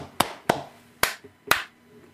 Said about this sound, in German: Mal schnell klatschen.